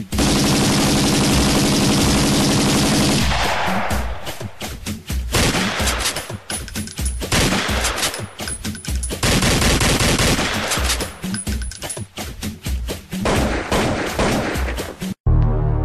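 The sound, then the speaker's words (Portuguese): Loud bursts of rapid gunfire in a favela in the early hours of the night, a dense roar of overlapping shots at first, then volleys of quick repeated cracks continuing for about fifteen seconds, with no talking. “favela sinistra, na madrugada, o tiro de novo, tá ligado”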